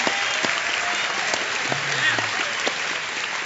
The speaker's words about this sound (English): Stand up. Round of applause.